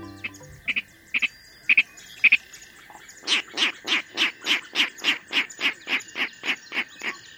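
Virginia rail calls in a marsh, heard from a boardwalk: a few sharp paired clicks, then a steady run of about a dozen grunting oinks, evenly spaced and close by, over a faint steady background hum.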